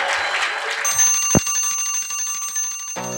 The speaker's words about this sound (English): Let's hear one more time from that bird. If he'll get up, he's kind of flying into things. Oh, yeah, we hear it.